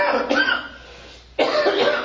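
Two harsh coughs separated by a brief pause, each a loud raspy burst from a single person, with no other sounds around them.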